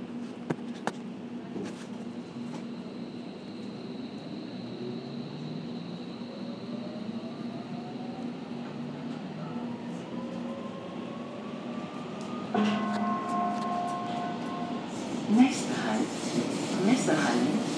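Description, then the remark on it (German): An underground train pulls away: a steady low rumble with electric motor whines rising in pitch as it accelerates, then a shift to a louder, brighter running roar heard from inside the carriage. “Also ich persönlich finde, dass die Ansagen hier deutlicher sind als in den anderen Zügen.”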